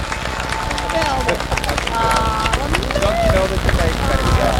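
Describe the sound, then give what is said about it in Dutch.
A crowd applauds with dense, steady clapping for several seconds, mixed with cheering and excited voices calling out over the top. “Applaus!”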